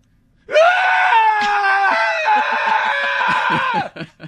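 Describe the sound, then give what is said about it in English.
A person lets out one long, loud, shrill, staged scream of panic that wavers in pitch for about three seconds, trailing off into a couple of short, breathy cries. “No, girly, be screaming like a girl. Then I'll have to scream.”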